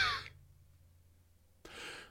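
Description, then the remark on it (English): Two breathy, airy coughs deliberately pushed from really high up in the throat, with an almost P sound from the lips at the start: a brief one at the start, then after a pause of silence a second that bursts in sharply and trails off. “Now you're coughing like a king.”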